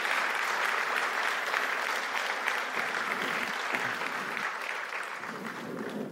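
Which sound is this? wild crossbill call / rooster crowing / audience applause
audience applause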